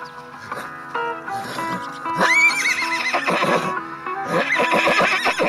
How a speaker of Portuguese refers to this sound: Compadre, seu cavalo tá meio nervoso ali fora.